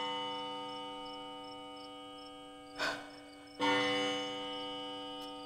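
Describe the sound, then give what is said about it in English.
A bell rings in Macbeth's castle in a dramatization of Macbeth, with a steady, sustained metallic hum, swelling with two sharper strikes a moment apart, then lingering as the tone slowly fades. No voices are heard. “The bell invites me.”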